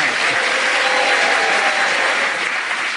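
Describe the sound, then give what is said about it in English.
An audience applauds steadily, endorsing Jenny Eclair's contribution, a dense, even wash of clapping that holds at a fairly loud level for the full three seconds, with no voices standing out above it. “The applause from the audience endorse what you contributed, Jenny.”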